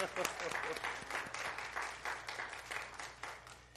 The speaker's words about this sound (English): But we have a tournament champion. I tried to ask. Round of applause.